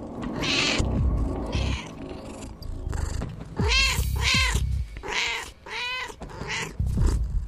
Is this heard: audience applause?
no